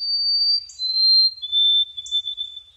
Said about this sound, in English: For example, since I produced our episode with U.S. Poet Laureate Ada Limón, I tear up a little every time I hear the song of a white-throated sparrow, thinking about Ada's poem, Sparrow, What Did You Say?